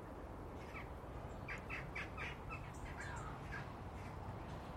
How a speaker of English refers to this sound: Although, having said that, it sounds more like a crow than a jackdaw.